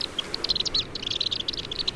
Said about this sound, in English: Black swifts are extraordinary birds. They spend most of their lives in the air and migrate thousands of miles every year.